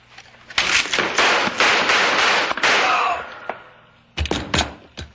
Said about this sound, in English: Well, how am I supposed to be? I just shot a man. He tried to kill us.